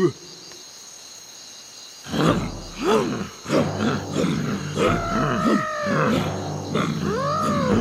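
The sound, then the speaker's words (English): After two quiet seconds, elephants break into loud grunts and rumbling roars, calling repeatedly with rising and falling tones over a steady background hum of insects. “Look at these elephants. They're very big.”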